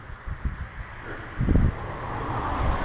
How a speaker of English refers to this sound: It's dry now, stopped raining, but clearing up overhead. Cars rushing past on the military road.